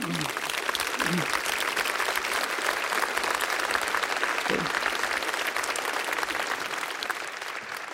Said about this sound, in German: Die grüßen wir mal, denke ich, mit einem anständigen oststeirischen Applaus, der Gruß hinaus nach ganz Österreich und darüber hinaus.